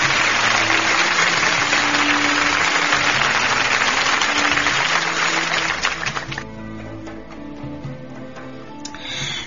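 An audience applauds after a poem is recited, in a dense, steady burst of clapping that thins out into scattered individual claps toward the end, with a faint low hum underneath and no one talking.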